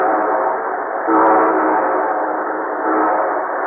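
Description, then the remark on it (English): A train horn blares loudly and steadily, a sustained harmonic blast that swells slightly midway as the train draws near, with no voices present; the show train opening the radio program The Railroad Hour. “And here comes our star-studded show train.”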